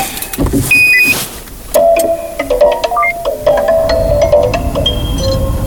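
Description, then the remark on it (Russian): An electric car in park powers up with a sequence of electronic beeps and melodic chime tones, clear over a low cabin hum, with no engine roar. “Все, она завелась.”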